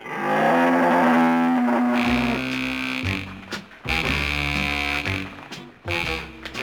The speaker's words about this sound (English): What's that? It's a water buffalo. It is not. It's a moose. No. It's a cow.